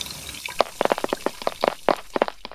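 Water drips and splashes from two faucets left not fully turned off at a public restroom and pavilion, in quick, irregular drops, about a dozen crisp plinks in a couple of seconds, with no voices.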